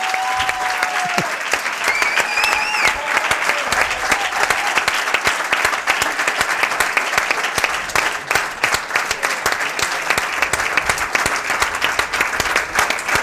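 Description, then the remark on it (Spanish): Sustained applause from a large audience for the players Carlos Soler and Pablo Marín, loud and steady for the whole stretch, with dense overlapping claps and a few faint whistles near the start. “Así que para no hacerles esperar mucho, aplauso para Carlos Soler y para Pablo Marín.”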